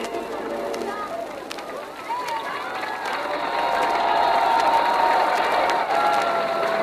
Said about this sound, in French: et en bas du bâtiment de la radio du 118 Champs-Élysées, ce sont plusieurs milliers de personnes qui sont groupées pour attendre les dernières nouvelles. Tout le monde entend la Marseillaise que vient de diffuser la radio.